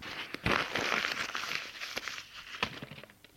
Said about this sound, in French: Il froisse sa lettre pour la remettre dans la poubelle.